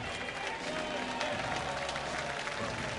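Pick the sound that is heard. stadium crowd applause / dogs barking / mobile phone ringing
stadium crowd applause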